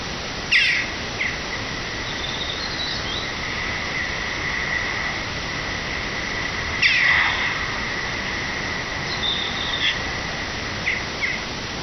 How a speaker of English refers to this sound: This bird was identified as a Eurasian jackdaw. Bird with a black plumage, pale grey neck and striking blue eyes. A series of harsh caw sounds, often repeated, sometimes with a melodious quality, is their song.